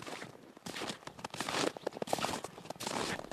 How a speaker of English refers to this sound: About the only sound is the crunch of your footsteps around here.